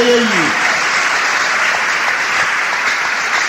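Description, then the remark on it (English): An audience claps for God with both hands in a dense, steady wash of applause that stays loud throughout, with a brief tonal voice or note fading out at the very start. “Each time you clap, you're telling God, I will cooperate with you.”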